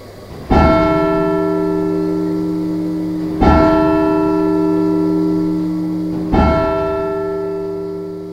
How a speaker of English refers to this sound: The oldest bells, we're not quite certain how old they are, but they're certainly mid-15th century, are the numbers 4 and 5. So when we're ringing on a Tuesday night for practice, we're handling bells that were cast over 450 years ago.